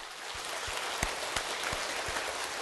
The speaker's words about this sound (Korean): 그러면 저 따라서 해봐요. 먼저 자기 자신을 위하여 축복의 박수 한번 하겠습니다.